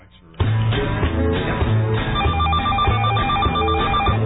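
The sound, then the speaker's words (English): A short musical jingle announcing the opening of the phone lines starts abruptly after a brief quiet moment, loud and steady, with a telephone ringing in repeated bursts woven through the tune. “Here's the open the phone lines little ditty.”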